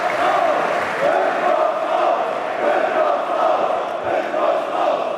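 At a Hertha members' meeting, a large crowd of members shouts and jeers at investor Lars Windhorst, a dense wall of many overlapping voices with a steady, loud, angry roar and no clear individual words.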